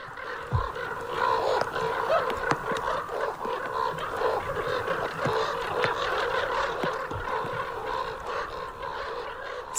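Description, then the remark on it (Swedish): A flock of large birds calls in agitated alarm as a goshawk strikes one of them and its companions come to help free it: a dense, continuous chorus of honking and clucking cries with a few sharper, louder squawks rising out of it, steady throughout. “Det är en duvhök som slår en karp. Och så kommer kamraterna till karpen och ska hjälpa till och få lös den.”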